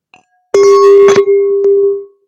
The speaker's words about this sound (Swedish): Vi kör en liten skål här.